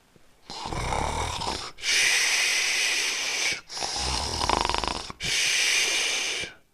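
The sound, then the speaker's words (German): Soft snoring from a sleeper: two rumbling, buzzy snores, each followed by a long breathy hiss of exhaling, in a slow, steady rhythm with no one talking, as the story character Fons falls asleep. “Gustav sieht, dass Fons eingeschlafen ist und schon sanft schnarcht.”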